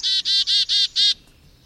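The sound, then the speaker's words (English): A chickadee calls five quick, buzzy notes in a steady row, loud, with no other sounds around it. “Let me play sound of one. You write about the chickadee, that chickadees have a complex language for communicating, not only to each other, but to every bird in the neighborhood about how safe or unsafe they feel from predators.”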